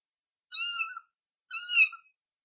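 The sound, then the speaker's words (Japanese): A brown tiger-striped kitten, trembling as it slowly approaches, gives two thin, high-pitched meows about a second apart, each short and clear, with silence around them and no voices. “子猫は震えながらゆっくりと僕に近づいてくる。”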